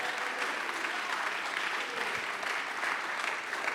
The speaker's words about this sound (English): Let's clap our hands. Let's lift our voice. Let's magnify Him.